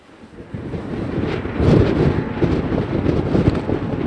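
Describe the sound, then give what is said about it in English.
Gusting wind buffets the microphone outdoors on a pier in high summer, a steady low roar that swells and rushes in uneven surges, loud, with no voices. “All geared up, we head back outside into the wind on the pier.”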